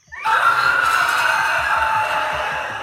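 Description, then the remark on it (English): A loud, grating screech of two pieces of rusted metal being forcibly rubbed against each other starts abruptly and holds steady for a few seconds, harsh and shrill with no pauses and no voices. “It is the sound of two pieces of rusted metal being forcibly rubbed one against the other.”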